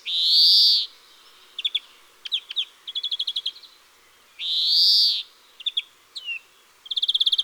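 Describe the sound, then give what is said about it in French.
A European greenfinch sings alone, two long wheezy nasal calls separated by quick chirps and rapid trilling bursts, clear against a quiet background. “Le verdier lance des notes tremblées et un cri nasillard.”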